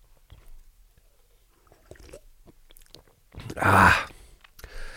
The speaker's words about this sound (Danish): Jeg tager lige et slurk af min øl her.